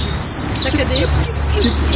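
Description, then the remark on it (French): A bird repeats a simple two-note call, high and thin, several times in a steady rhythm over a low, constant background rumble. “Alors, vous entendez un nouvel oiseau.”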